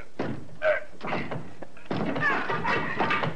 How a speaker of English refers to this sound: The tenant is out just now. Left his door locked. Name of Marsden. Well, is that so? Just as well we have the search warrant. Try your shoulder on that door